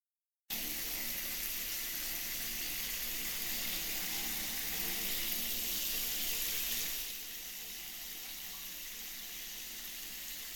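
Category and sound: household object, shower water running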